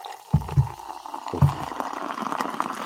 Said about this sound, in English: That's good radio. That's real good radio right there. That was good. That was a really good pour.